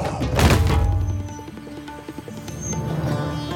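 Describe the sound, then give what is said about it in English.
A dark creature hit by an arrow crashes to the ground with a deep, booming thud near the start, then lingers as a low rumble while soft sustained music plays underneath. “And an instant later, the creature fell to the ground.”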